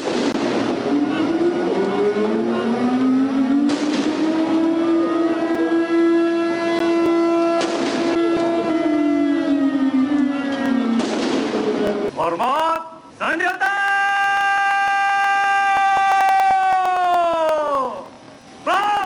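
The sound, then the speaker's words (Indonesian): Heavy booms of a 17-shot ceremonial cannon salute at Istana Merdeka for the 69th Indonesian Independence Day ceremony fire every few seconds, each a sharp blast rising over a loud, sustained horn-like tone that drones throughout and shifts pitch near the end. “Perayaan kemerdekaan di Istana Merdeka diwarnai dengan dentuman meriam sebanyak 17 kali.”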